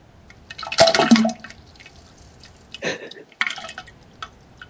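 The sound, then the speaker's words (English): Water from a waterfall splashes and pours in short, uneven bursts, one loud gush near the start and a few smaller splashes later, with faint dripping in the quieter gaps between them. “Okay, so next and lastly, Waterfall and Drips.”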